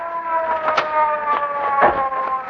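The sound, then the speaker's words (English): A police car approaches and stops, its siren blaring, holding a steady, piercing tone with a few brief whooshing bursts of vehicle noise underneath; no one speaks. “Hey, Casey, here comes a police car.”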